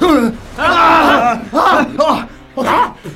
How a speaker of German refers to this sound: Mitten in der Nacht weckte den ersten Detektiv ein lauter Schrei.